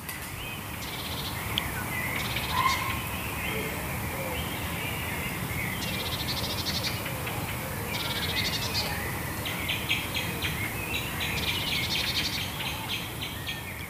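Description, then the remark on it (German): Several birds chirp and call outdoors in repeated bursts of high, bright notes over a steady background hiss of ambient noise, with no one speaking. “Ich glaube, dann würden wir gerade noch mal so 20 Sekunden vielleicht innehalten, weil hier haben wir auch gerade ein paar Vögel.”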